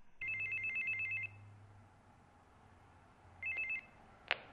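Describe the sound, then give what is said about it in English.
An electronic doorbell at a neighbour's home, rung by a visitor, gives a long, trilling high-pitched ring, falls quiet, then rings again in a shorter burst before a sharp click. No one speaks. “And I think about it and I get up the courage and I go over there and I ring the doorbell.”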